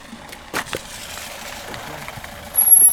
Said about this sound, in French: Tiens, une voiture passe.